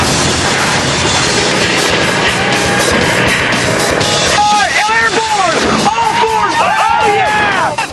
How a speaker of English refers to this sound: His engine is taking the nitrous oxide abuse.